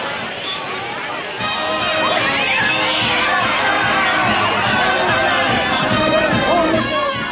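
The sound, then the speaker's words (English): A large crowd of townspeople, photographers and band members mills and clamors at a train station in Tennessee hung with American flags, as a train pulls to a stop; many voices overlap into a loud, steady hubbub with scattered shouts and cheers, swelling fuller after the first second and staying busy throughout. “American flags hang from the station above a crowd of townspeople, photographers, and band members.”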